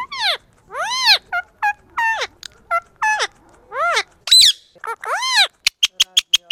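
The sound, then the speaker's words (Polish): A pet bird named Franek, shown a mirror, chatters in a quick series of rising and falling squawky calls, fairly loud, ending with a run of short, sharp clicking chirps. “Daj to lusterko. Pokażemy panu, jak go nauczyliśmy, jak go sprowokowaliśmy do rozmowy.”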